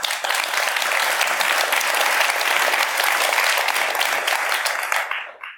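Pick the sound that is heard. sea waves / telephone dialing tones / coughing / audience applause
audience applause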